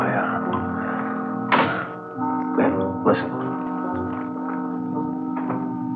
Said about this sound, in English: Listen. Someone. Must be. Not to be seen anything. Sounds like he's pacing up and down alongside the car, doesn't it?